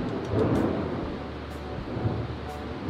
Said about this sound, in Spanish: ¿Oyes los truenos?